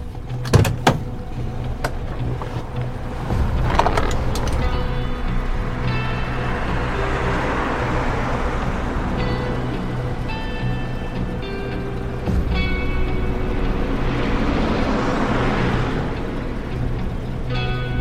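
A car engine runs steadily with a low rumble and rising, falling tones as the vehicle drives, after a few sharp clunks near the start; there is no talking.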